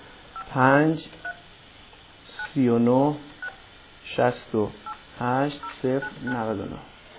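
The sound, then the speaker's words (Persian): Short touch-tone beeps of a phone number being dialed to call the network's third phone line, scattered between and under a man's speech, each tone brief and moderately loud. “باز هم با خط سوم هم تماس بگیریم ببینیم که حتی خط روحانیت که گذاشتن اینها ظاهرا خط روحانیت اصلا وصل نمیشه.”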